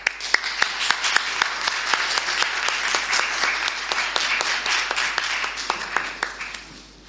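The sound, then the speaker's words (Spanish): A crowd applauds steadily for about seven seconds at the prize-giving of the seventh Christmas shop-window contest of Cartagena's commerce, as the first prize goes to the shop Duchester. A dense wash of overlapping claps with sharper individual claps popping out, holding a fairly even loudness throughout without any voices. “Un fuerte aplauso.”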